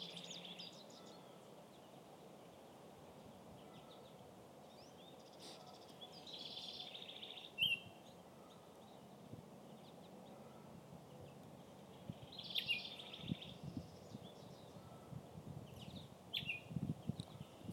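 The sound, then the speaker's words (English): Birds sing in scattered bursts of bright chirping over a steady rustling outdoor hush on a farm on a windy, mild, sunny spring day of about 14 or 15 degrees, with quiet gaps between the calls and no voices. “I love being here in weather like this, when it's springtime and all the birds are singing.”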